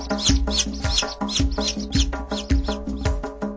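Repeated high chirps from chicks, fairly loud, over a steady rhythmic musical backing with a deep bass line, continuing through the whole stretch with no talking; the chirps go with a line about two chicks hatching from two eggs.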